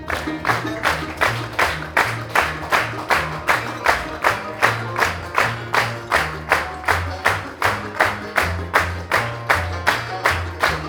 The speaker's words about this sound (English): Now clap with me some rhythm just as fast as you can.